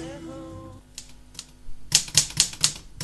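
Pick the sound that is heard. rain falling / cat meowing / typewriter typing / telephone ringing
typewriter typing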